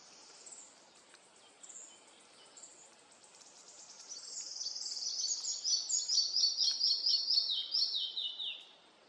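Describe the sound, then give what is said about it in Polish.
A young male pied flycatcher calls in a forest with thin, high notes, sparse and faint at first, then swelling into a fast, dense run of bright chirps over the last few seconds. No voices are heard. “Operator mi ucieka, mam muchówkę żołobną teraz z drugiego podejścia.”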